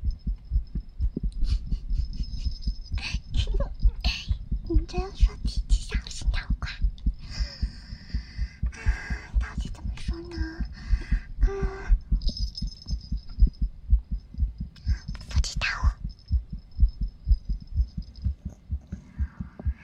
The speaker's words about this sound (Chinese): 不，他们说是胖的人心跳快。